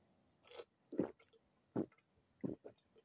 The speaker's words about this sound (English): Hold on. Let me hit this last little sip again for the episode to end. Hold on.